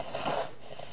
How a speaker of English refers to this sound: She's got the sniffles.